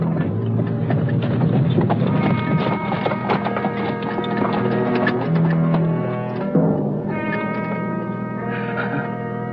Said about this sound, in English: Late in the evening, a horse-drawn cab drives along Rue Morgue.